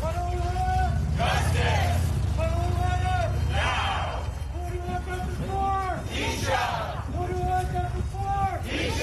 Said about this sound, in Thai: เสียงผู้คนร่วมตะโกนเรียกร้องความยุติธรรมระหว่างการชุมนุมเดินรณรงค์บนถนนเทียร่าวิสตาและถนนเอ็นคานโตจุดเกิดเหตุที่นายวิชารัตนภักดีชายเชื้อสายไทยวัย84ปีเหยื่อที่ถูกคนร้ายผลักล้มจนเสียชีวิตในนครซานฟรานซิสโกเมื่อวันที่30มกราคมปีที่ผ่านมา